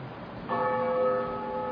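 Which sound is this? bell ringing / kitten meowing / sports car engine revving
bell ringing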